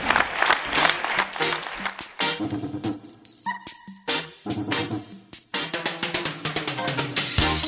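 An audience at the Diada de l'Esport in Sitges claps steadily after a speech by the Diputació de Barcelona sports coordinator, a dense, continuous patter of many hands that stays fairly loud for the full eight seconds, briefly thinning midway before swelling again. No one speaks over it.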